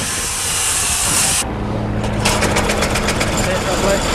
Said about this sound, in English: Congratulations! It's a healthy 4-cylinder 1.6-litre power source for your cutter bar, weighing in at a massive 280 pounds.